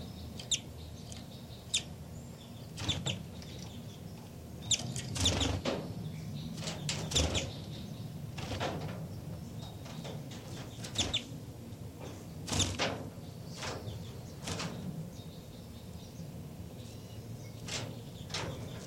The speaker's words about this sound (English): Back to the baby birds who are really calling a lot now.